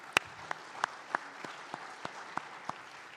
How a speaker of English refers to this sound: So with that, let's give our panel a wonderful round of applause.